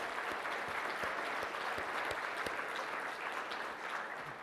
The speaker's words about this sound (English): So a big round of applause for your program committee. Thank you, folks.